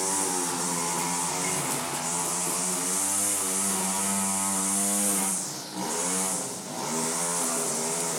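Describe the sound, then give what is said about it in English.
A chainsaw in school grounds runs at full volume, loud and steady with a harsh, buzzing whine, its pitch holding level before briefly dipping and revving back up near the end. No one speaks. “Let's go outside and you can hear it because it's full volume.”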